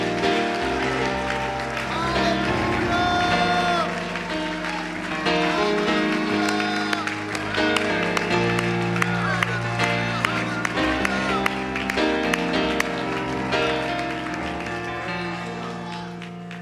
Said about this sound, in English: I wonder if everybody that can would just clap their hands and shout with their voice. Praise God in the spirit right now.